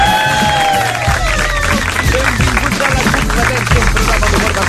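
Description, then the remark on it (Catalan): A studio audience at radio station RAC1, people from towns such as Sant Pere Pescador, applauds and cheers steadily, a dense wash of clapping mixed with excited voices and shouts, loud and sustained for several seconds without a break. “Espereu que estàs aplaudint encara.”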